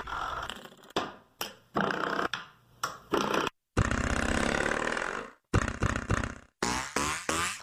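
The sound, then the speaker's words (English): A series of twangy, metallic boings from door-stopper springs struck with a hammer, some short and clipped, others ringing with a buzzy wobble, coming in irregular loud bursts with brief silences between. “It's a every one of these sounds is a door spring. It's a hammer.”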